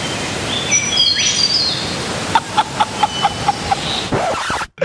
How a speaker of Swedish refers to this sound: I morse när jag vaknade så hörde jag bofinken. Vill du höra? Ja.